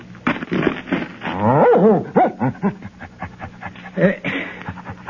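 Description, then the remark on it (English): At a medal ceremony, a dog barks in a quick, uneven series of short, excited yelps, fairly loud, with some whiny, high-pitched barks in the middle. “But will somebody show me how I can pin his medal on the dog?”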